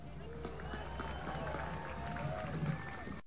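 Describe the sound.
An outdoor crowd applauds and cheers in a steady, dense wash of clapping and scattered voices, holding at an even, moderately loud level for a few seconds before cutting off.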